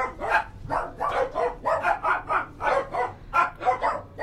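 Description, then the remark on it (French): Dogs bark at dusk, repeatedly in quick, overlapping bursts, around a dozen sharp yaps in a steady rhythm, loud, with no one talking. “Entre chien et loup, elle entendit des chiens, justement, se mettre à aboyer.”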